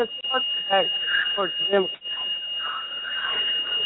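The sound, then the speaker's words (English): At Detroit Metro Airport, a steady, high-pitched alarm tone of bells rings without a break through the whole stretch, while people talk over it and other background bustle. “I apologize for all the background noise. I've been trying to keep it on mute, but there's like bells ringing and all that, so sirens going off.”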